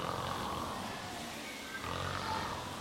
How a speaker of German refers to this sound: Doch jetzt war er plötzlich eingeschlafen. Scheherazade hörte den Sultan schnarchen.